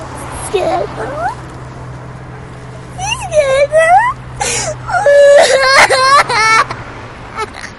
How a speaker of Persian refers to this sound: اشکال نداره، گریه نکن، اشکال نداره.